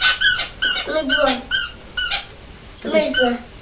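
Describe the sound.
A squeaky toy is squeezed over and over, giving about six or seven shrill, high-pitched squeaks in a quick, uneven rhythm, while a voice murmurs wordlessly beneath some of them.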